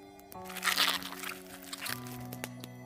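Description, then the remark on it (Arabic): Wet, squishing crunches like a dog chewing a bone in its mouth, made by an unknown creature at night, irregular and moderately loud, over a steady low humming drone with shifting tones. “سمعت صوت شبه صوت الكلب وهو بيمضغ عظمة في بقه.”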